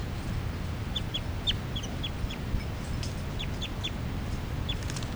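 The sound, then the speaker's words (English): Captive juvenile birds give short, thin, high-pitched flight calls, about a dozen quick chirps in loose clusters, over a steady low background rumble, recorded at 8:59 a.m. “3, 3, and the new juveniles are giving calls here, flight calls.”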